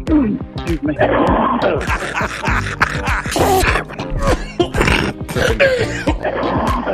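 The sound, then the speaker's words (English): A rapid string of coughs edited back to back, harsh bursts mixed with throaty, grunting voiced tones, loud and nearly continuous with barely a pause between them. “I love the cough montage.”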